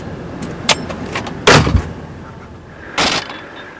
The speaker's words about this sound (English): Halfway up a mountain, Moll hits the brakes.